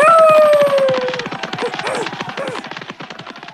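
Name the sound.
dog yelping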